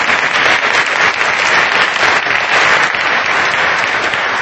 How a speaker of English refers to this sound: And honestly, truly, I can't say thank you enough. Yeah, clap for them too, for sure.